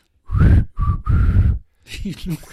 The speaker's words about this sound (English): Well, that's an interesting point because I was going to say … was one of the original whistling rock stars. I can't really whistle.